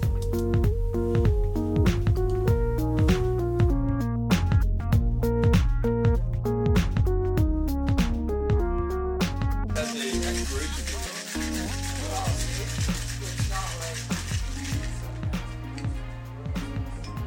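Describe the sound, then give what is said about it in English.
Rhythmic music plays, then about midway a cocktail being shaken joins it as a steady, hissing rattle of ice that continues over the music to the end. “Trying to capture the shaking noise.”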